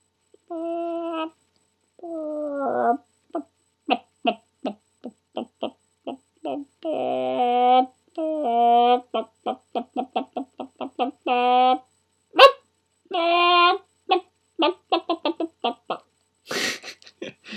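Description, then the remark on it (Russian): A person imitates a chicken with their voice, producing a long run of short, staccato clucks and a few drawn-out squawks, fairly loud with no other talking. “Но у меня достаточно неплохо получается курица.”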